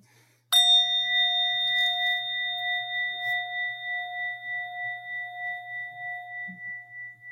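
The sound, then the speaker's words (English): A single meditation bell is struck once to begin a moment of reflection, its clear ringing tone sustaining and slowly fading over several seconds with a gentle wavering shimmer, heard alone against near silence. “But what I'll do is just ring this bell and invite us together in a bit of reflection.”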